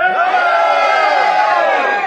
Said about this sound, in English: When I count to three, on the number three, everybody shout. Just yell. One, two, three.